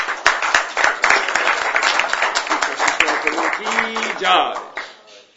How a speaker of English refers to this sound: So let's have a round of applause for him.